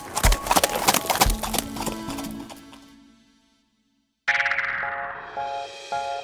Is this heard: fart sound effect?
no